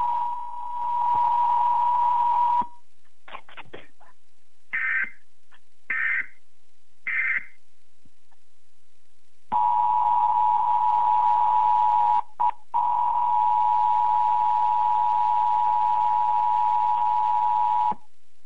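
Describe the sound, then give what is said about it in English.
Emergency Alert System broadcast tones before a fictional emergency action notification on behalf of the Federal Emergency Management Agency: a loud, steady electronic tone, a gap of short choppy beeping bursts, then the harsh sustained tone returns for several seconds. No voices. “Alert system. This is an emergency action notification broadcast on behalf of the Federal Emergency Management Agency.”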